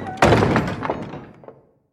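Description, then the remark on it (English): A heavy stockade door slams shut with a loud, booming thunk, followed by a couple of sharper clicks as it is locked, then the ringing fades into silence. “He's hauled back to the camp and thrown on the floor of the stockade, the door slammed and locked behind him.”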